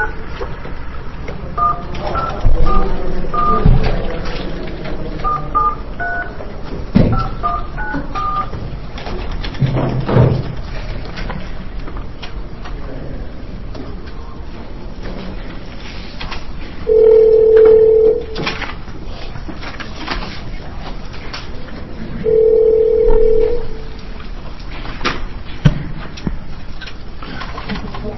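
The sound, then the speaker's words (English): A quick series of touch-tone dialing beeps as Judiciary Committee staff phone Judge Pratt, followed later by two long, steady telephone tones a few seconds apart, heard clearly over a faint background. “Chair, I'm going to go ahead and get Judge Pratt on the phone as well so he can hear Judge Lipscomb's testimony and then testify immediately after that.”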